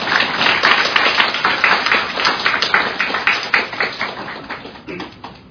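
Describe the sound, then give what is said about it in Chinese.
An audience applauds to thank three speakers and their interpreter: dense, steady clapping that fills the whole stretch, bright and fairly loud, with individual claps popping out before the sound thins slightly toward the end. “好，那我们就再一次以最热烈的掌声，谢谢今天三位语谈者，以及我们今天最辛苦的翻译苏南老师，谢谢他们。”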